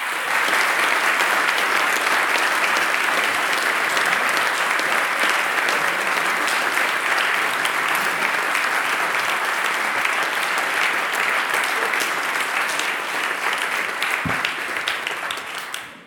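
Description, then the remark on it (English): A crowd applauds steadily for about fifteen seconds in thanks to long-serving Boys' Brigade leaders, a dense, loud wash of clapping that holds its level throughout before tapering off at the very end. “So it shows the length of service, and we just want to give them a big round of applause and say a massive thank you to them.”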